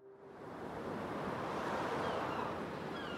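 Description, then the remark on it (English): A steady, full wash of ocean surf at Gilgo Beach along Ocean Parkway, swelling in over the first moment and then rolling on continuously, fairly loud, with a breezy hiss mixed in and no voices. “A couple of weeks ago, I drove back out to Gilgo Beach and Ocean Parkway to see if the place gave me any new insights.”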